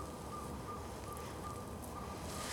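A northern saw-whet owl, about 7 inches high, gives a steady series of high, hollow, insistent toots, faint, repeating about twice a second over a soft hiss of night noise in a forest on a perfectly still late winter evening under the stars of Orion.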